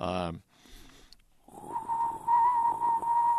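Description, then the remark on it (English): A person in a studio whistles a steady single warbling note, imitating a bird-like call, loud for about two seconds after a brief burst of voice at the start. “And it's a solid note, and it's a single note, and it warbles. That's the best way to describe it, I guess, is a warbling whistle.”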